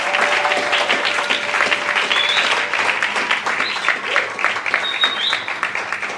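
An audience applauds steadily to celebrate the birth of a baby boy, many hands clapping in a dense, continuous patter at a fairly loud, even level for several seconds, with a few brief whistles or cheers rising above it.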